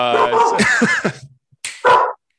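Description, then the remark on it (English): A dog vocalizes, a run of whiny, yelping barks followed after a short pause by one or two sharper, louder barks. “That's right, your dog knows.”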